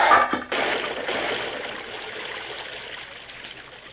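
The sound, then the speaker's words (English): In a Lone Ranger radio drama, water rushes and pours steadily into a well, a loud continuous gushing that begins with a brief splash and slowly eases in volume over a few seconds, with no voices. “Turn the water into the well”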